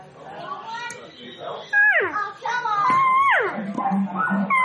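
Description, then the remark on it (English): A cow call blown on a game call from one call maker, played to compare calls from different makers: several loud, nasal mewing notes, each sliding downward in pitch, repeated in a loose series with no talking. “Sometimes getting calls from different makers, like, okay, so listen, I'm going to give you one here, and just a cow call, listen to them.”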